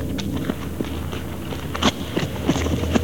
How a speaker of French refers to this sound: Ah oui, alors ça, c'est les bruits de pas dont je parlais tout à l'heure, mais qui sont effectivement les bruits de pas qu'on a entendus tout à fait au début du film, hein, mais qui sont à l'envers.